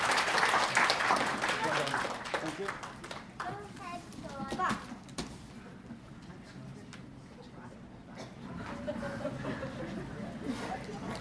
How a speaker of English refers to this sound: And thank you very much for coming up. Can everyone give them a round of applause as you go back down?